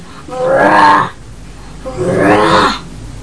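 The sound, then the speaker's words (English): A child's voice gives two drawn-out, rasping roars in imitation of a lion, each lasting about a second with a short pause between them. The roars are loud and harsh, with no other sounds. “I'm a big ugly lion.”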